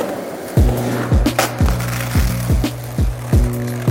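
A skateboard rolls with a steady low rumble, its wheels clacking sharply at a regular pace, roughly every half second, as if crossing pavement joints. No voices are heard.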